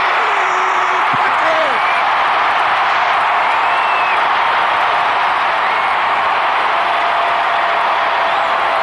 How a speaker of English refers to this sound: Without a doubt, the biggest ovation of anybody